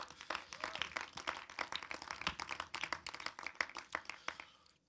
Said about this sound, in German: Das ist ein Superstar, also dürft euch selber einen Applaus geben, ihr seid gigantisch, ja, also.